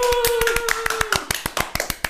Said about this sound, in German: Wieso klatscht du so leise